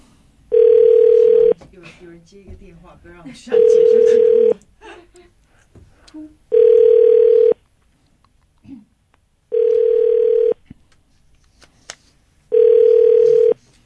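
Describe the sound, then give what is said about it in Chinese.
An outgoing phone call rings unanswered: five steady ringback tones, each about a second long, repeat at even intervals, with quiet voices talking in the gaps between rings. “Pick up the phone, pick up the phone”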